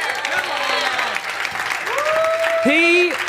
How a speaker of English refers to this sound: Could we give a massive whoop and a cheer?